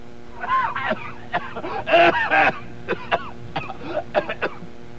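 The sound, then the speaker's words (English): A run of loud throat clearing followed by several short, sharp coughs in an irregular sequence, with no talking, while a radio microphone cough switch is being tested. “Now, according to him, if I throw the switch to the right, if I have to cough and clear my throat, then you don't hear it.”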